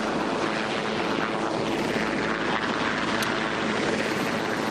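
helicopter flying overhead

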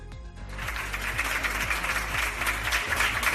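applause

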